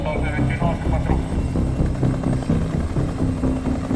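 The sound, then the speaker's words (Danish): A black and green military helicopter carrying soldiers from Tumaco in Operation Jaguar begins to rise after a man jumps out; its steady, loud rotor and engine roar is continuous, with a voice talking over the noise. “Helikopteren begynder at hæve sig op, og nu begynder lufttrykket at falde.”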